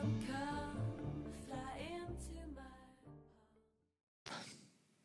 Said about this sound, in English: And we are back. Also, thank you for that. Thank you for that yawn. Now I have to edit that out.